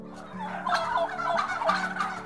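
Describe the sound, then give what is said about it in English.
A turkey gobbles and calls in a rapid, warbling series of throaty notes, fairly loud and continuous over about two seconds, with no talking. “And turkeys can do more than just gobble.”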